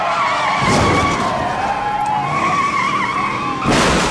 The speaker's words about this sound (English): The patrol car rams the station wagon and sends it crashing headlong into the lead police vehicle. Both cruisers screech to a stop. The station wagon wedged between them.